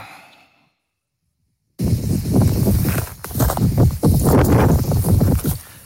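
After a short silent gap, loud wind buffets an RMC radio reporter's phone line at the scene of a wildfire in the Minervois, a harsh, gusty roar of rumbling bursts and hiss that swells and dips, with no voice coming through.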